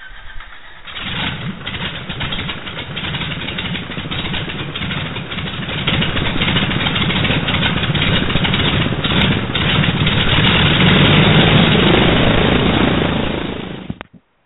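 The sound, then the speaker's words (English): A big R-2800 radial piston aircraft engine cranks, coughs to life and settles into a loud, throbbing rumble that builds steadily before cutting off abruptly. “Let's start up an R2800.”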